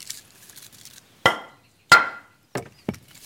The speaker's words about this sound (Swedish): det ett litet trix som man kan göra för att veta om veden är nog torr att elda med. Det är att man tar två vedklabbar och så slår man ihop dem i varann. Då ska det låta som ett klink, klonk, ett ihåligt ljud. Då vet man, då är det redo för kamin.